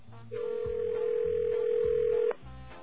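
telephone dial tone

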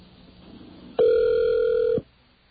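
telephone call ringing

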